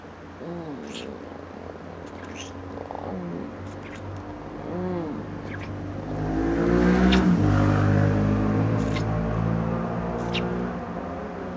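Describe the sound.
Motorcycle engines drone and rev, their growl swelling to a loud peak partway through before easing back off, with faint voice-like murmurs mixed in.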